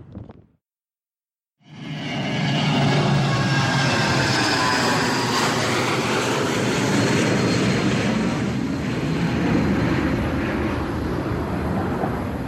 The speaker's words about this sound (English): Cool, plane.